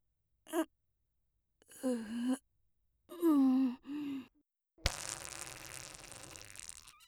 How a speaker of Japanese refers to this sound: みんなそんなびっくりしなくたって。この感じ多分おならだから。